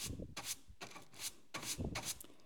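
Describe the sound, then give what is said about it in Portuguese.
A mother sweeps the floor of her house by the Sea of Galilee. Brisk, scratchy bristle strokes move in a steady back-and-forth rhythm, about four or five swishes, with no voices. “Ela varria o chão.”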